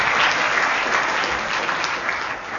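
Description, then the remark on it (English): An audience applauds a panel steadily, a dense wash of many hands clapping at once, fairly loud, sustained throughout before easing slightly at the end. “Well, first, let's have a round of applause for the panel.”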